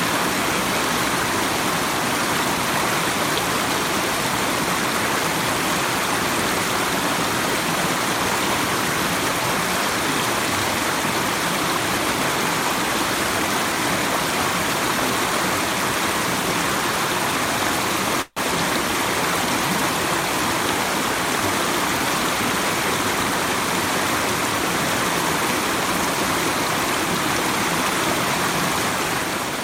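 A steady, full rush of flowing river water fills the whole recording, a dense continuous hiss and burble, with no voices and only a brief break near the end.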